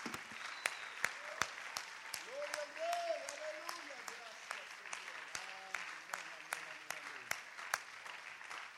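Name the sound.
audience clapping hands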